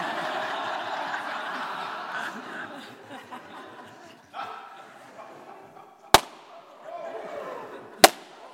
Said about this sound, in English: Okay, I'm going to give you a warning now. I'm going to pop these. So if you don't like balloons popping, please cover ears now.